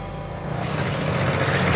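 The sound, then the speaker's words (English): A restored 1947 David Bradley walk-behind tractor from Rick's Restorations runs steadily, a rough, buzzing putter with a low throbbing hum that swells slightly louder and then holds an even, continuous drone. No one speaks. “I'm here at Rick's Restorations today to pick up my 1947 David Bradley Walk Behind tractor.”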